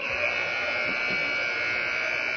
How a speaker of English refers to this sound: As we wait for that second horn, I hate talking over a horn. It's always a problem.